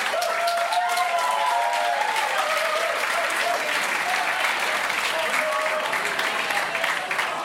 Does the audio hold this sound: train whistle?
no